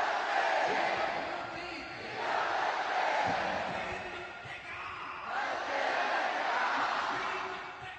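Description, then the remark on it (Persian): A large crowd at a big rally of supporters of Palestine, backing the people of Gaza, shouts in unison in loud, rolling waves, the chant swelling and easing roughly every two to three seconds with a dense roar of many voices throughout. “ملت و دولتی که یک صدا فریاد دفاع از مظلوم سر دادن.”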